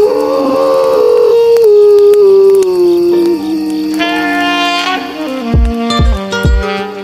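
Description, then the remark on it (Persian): A long, wavering howl like a young wolf's slowly slides downward, loud, over sustained synth tones, before deep bass thumps and a beat come in near the end. “بیبی گرگ بعضی وقتا روزه کشیدن یه بچه گرگ فرکانسش از صدای بعضی آدم ها بالاتره.”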